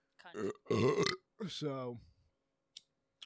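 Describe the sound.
A person burps into a microphone: a loud burp rumbles out in a few guttural bursts, followed by a drawn-out voiced belch that trails off, then a couple of faint clicks in the quiet.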